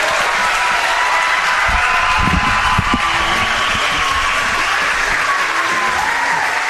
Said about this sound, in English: Congratulations to the Hawks on their outstanding season last year. Can we please give them a big round of applause for your 2025 state champion, Colin Hawks.